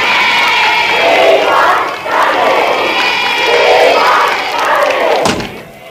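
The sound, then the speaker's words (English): A large crowd of hundreds of fans outside, waving banners, cheers and roars continuously for several seconds, a loud, dense wash of many voices swelling and dipping, with a brief thud near the end. “Hundreds of them outside with fans.”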